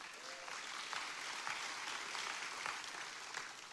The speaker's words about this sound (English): That's a reason to praise. We can clap there.